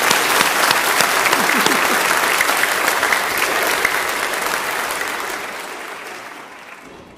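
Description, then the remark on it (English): A crowd claps steadily in a dense, loud wash of applause that gradually thins and fades away over about seven seconds; a few low voices murmur faintly underneath. “I think we'll give them a round of applause.”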